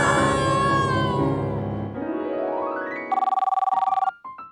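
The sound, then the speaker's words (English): A phone rings with a rapid, warbling electronic trill that cuts in loudly near the end, after a swelling musical flourish and a rising tone sweep; no one speaks. “Your phone.”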